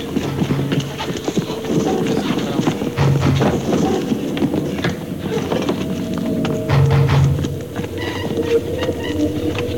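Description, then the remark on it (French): Recorded footsteps played forward on tape, steady and hollow-sounding, knock along at a regular pace, clear, layered over a continuous low droning background, with a few faint extra sounds including a grinding of metal on sandy stone. “Et on repart avec, cette fois-ci, les pas à l'endroit.”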